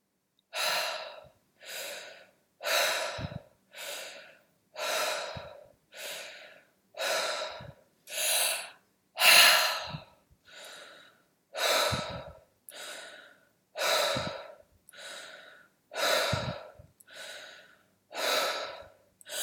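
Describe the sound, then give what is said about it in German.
Continuous rhythmic circular breathing through an open mouth, with deep audible inhales flowing straight into exhales and no pauses between them. Roughly sixteen airy breath cycles repeat steadily, with no talking. “Und lass dann deinen Ein- und Ausatem sich verbinden in einer Kreisatmung.”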